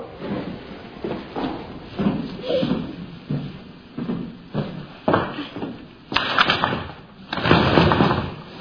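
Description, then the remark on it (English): Someone tries a locked door, rattling and shoving it in several uneven bursts that grow louder toward the end, with faint murmuring voices beneath. “I can't leave. She can't leave. No, it's not. The door is locked.”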